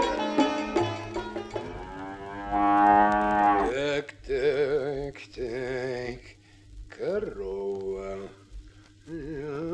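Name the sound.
cow mooing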